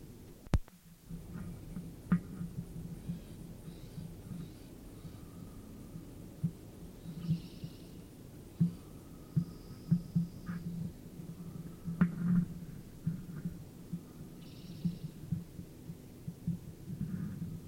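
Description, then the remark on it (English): Soft, low fluttering wingbeats from a small passerine bird in flight, recorded at 7:50, an irregular throbbing pulse that rises and fades with a few brief faint rustles above it. “Flight sounds at 10 to 8.”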